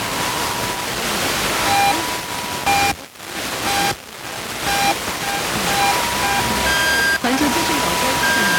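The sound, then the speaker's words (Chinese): A run of short electronic beeps, about a second apart, ends in one longer, higher tone, the hourly time signal of CRI News Radio marking 16:00 Beijing time, heard over a steady wash of background noise and music. “现在是北京时间16点整。”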